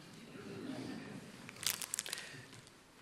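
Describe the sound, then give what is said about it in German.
A plastic bag of gummy bears crinkles in a series of sharp, bright rustles, with a few crisp bursts in the middle before it fades to faint handling. “Alle zu einer Tüte Gummibärchen. Euch alle. Zu dieser.”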